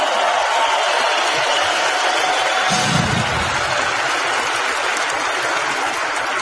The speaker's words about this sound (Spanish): Me vienen a regalarles un fuerte aplauso hasta el otro lado del mundo.